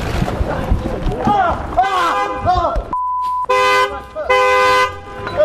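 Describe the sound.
Car horns honk in long, loud, sustained blasts mixed with a sharp electronic beep, following a stretch of people talking at the start, as a car runs over a man.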